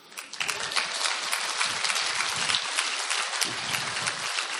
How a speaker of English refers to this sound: Where's the trumpeter? Where was he? Yeah, give him a cheer.